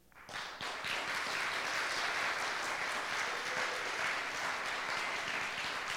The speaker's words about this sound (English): Everybody clap your hands. Okay, that sounded like a concert. Now clap your hands to the Lord.